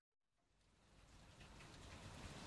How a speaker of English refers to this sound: At home, it was a rainy day.